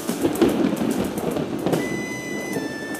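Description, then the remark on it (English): Steady rain falling on moors in the Scottish Highlands in a continuous hiss, with scattered sharper drop taps throughout and a faint thin whine near the end. Moderately loud, with no voices. “Does it never stop raining?”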